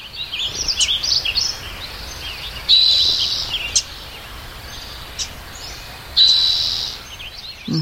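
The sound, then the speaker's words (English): Sparse birdsong in Sugarloaf State Park, California, in 2015, three years into a severe drought: a few scattered chirps and short, high phrases separated by stretches of faint background hiss. The stream there no longer flows, so there is no running water, and there are no voices. “Ten years later, Sugarloaf State Park again, 3 years into California's devastating drought, you barely hear the birds, and the stream is no longer flowing.”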